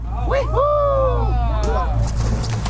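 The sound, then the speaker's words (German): A motorboat's steady low engine drone runs throughout, constant, off the coast of Hurghada, Egypt, while excited voices call out loudly over it as a group of girls with fins, snorkels and masks jump one by one into the sea. “Vom Motorboot springen … und ihre Freundinnen ins Meer.”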